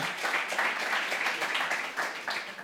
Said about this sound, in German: Ein Applaus